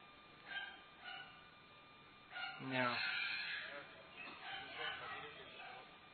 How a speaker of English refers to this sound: The dogs. He practices every day. Barking practice. Several times a day.